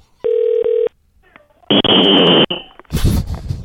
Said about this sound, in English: What? I just got whistled. I haven't been whistled since the 80s. That was amazing. Who keeps a whistle by their phone?